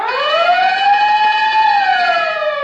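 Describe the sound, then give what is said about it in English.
A loud fire engine siren with a bell wails, its tone rising, holding high, then sliding back down over a few seconds, with no one speaking. “Remember, whenever you hear the siren and bell, think of Texaco.”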